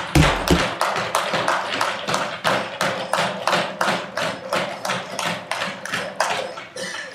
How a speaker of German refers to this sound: Ich glaube, Sie haben ja an dem Beifall gemerkt, dass wir uns dem alle anschließen.